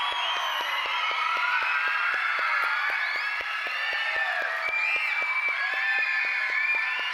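An audience at a VBS (Vacation Bible School) event claps steadily and densely throughout for a volunteer receiving a trophy and flowers, the applause holding an even loudness, with scattered whoops and cheers rising above the clapping.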